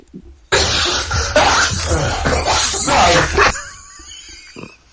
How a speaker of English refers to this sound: First the dog, the sneezing. Jesus. I was trying to hold it in.